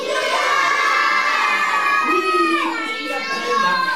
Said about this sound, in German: Die Kinder rufen fröhlich den Kasper.